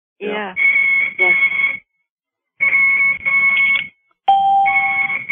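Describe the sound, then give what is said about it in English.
An IV infusion pump beeps insistently in three loud bursts of rapid electronic tones, separated by short pauses, with muffled voices faintly underneath. “Her IV. You hear the beeping?”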